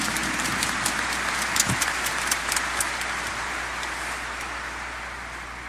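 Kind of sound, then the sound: crowd, round of applause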